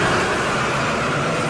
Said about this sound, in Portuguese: Tá passando ônibus, gurizada, tá passando ônibus.